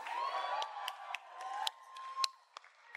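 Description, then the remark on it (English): Loud, sharp hand claps close to the microphone, about eight irregular smacks that stand out over a steady cheering crowd with a faint sustained whistle-like tone. “Someone's clapping too close to their mic.”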